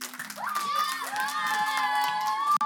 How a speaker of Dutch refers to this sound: Geef jezelf nog een groot applaus. De leerling van de Alt-Jacoet School.